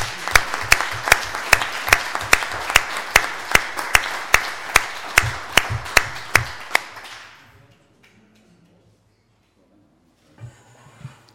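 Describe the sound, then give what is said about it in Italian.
A group of council members applauds at a municipal council meeting, after the council is declared validly installed, for about seven seconds, with sharp, evenly spaced claps standing out over a dense layer of clapping. The applause then fades into near silence. “Bene, il consiglio è validamente insediato, facciamo un applauso.”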